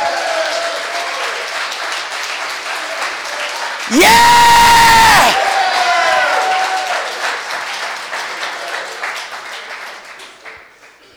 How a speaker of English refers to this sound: Come on, take 10 seconds and clap. Amen.